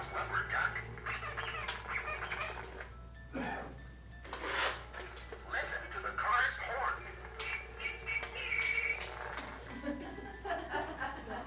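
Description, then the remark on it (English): An antique toy sounds off with a run of raspy, duck-like quacks and honks in irregular bursts, over a steady low hum. “I started shopping around for antique toys too. This is an antique, actually.”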